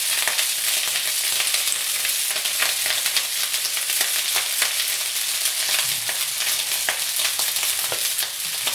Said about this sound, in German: Setzt uns hoch und da macht er eine Kelle Öl rein. So, ein bisschen anbraten. Jetzt haue ich das Gemüse dazu. So, dann wird das hier eine ganz bunte Mische.